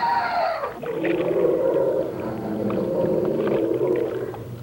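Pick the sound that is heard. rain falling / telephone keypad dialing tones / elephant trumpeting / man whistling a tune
elephant trumpeting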